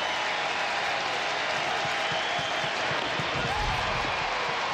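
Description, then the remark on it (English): A large crowd at a packed baseball game roars and applauds steadily, a dense wash of cheering and clapping that holds at a constant loud level for several seconds with no one speaking over it. “Packed house, and they've had a lot more to cheer about today.”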